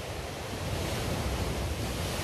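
ocean waves

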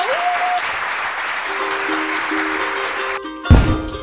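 applause

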